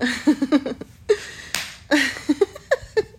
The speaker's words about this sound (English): Spank me, go ahead. Do it. I'm not your girlfriend, you don't need to be nice to me. Slap my ass, do it.